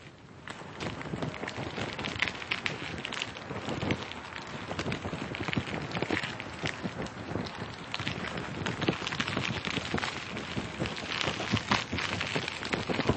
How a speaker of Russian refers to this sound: Обычно звукооформители не раскрывают своих секретов, но есть такие простые вещи, как, скажем, звук огня, который имитируется при помощи старого веника и носового платка.